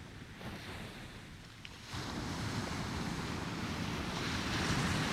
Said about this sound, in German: Das Sonnenlicht glitzert in den Wellen. Eine nach der anderen findet ihren Weg zum Strand.